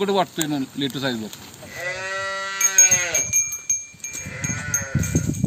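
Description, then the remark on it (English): A voice speaks briefly, then a cow gives two drawn-out, fairly loud moos, with a faint bell-like ringing and farmyard noise in the background, at a farm in Maharashtra, India. “Some happy Maharashtrian cows.”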